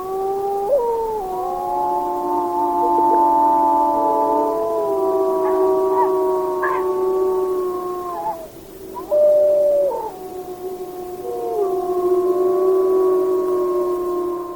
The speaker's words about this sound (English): Well, let's hear an example of some wolves howling. And this is a pack of wolves during the evening in Yellowstone National Park.